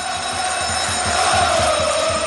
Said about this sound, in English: So Palace actually had a, I don't know whether they still have it, but every time before a game you hear an alarm bell.